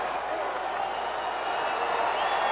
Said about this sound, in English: At the moment, they're trying to get the crowd seated here, trying to quiet them a little bit.